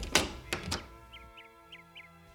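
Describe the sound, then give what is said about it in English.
A door opens and shuts with a few heavy wooden thunks in quick succession. A quieter stretch follows with faint, high chirping sounds in the background. “I'll get the door.”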